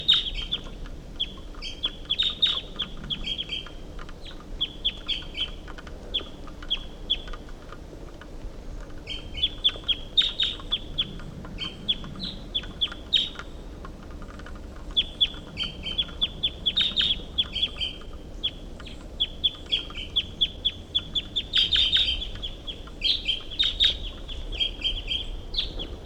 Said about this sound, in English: Stop. Recording the wild bird. Who's up at the top of this tall pine?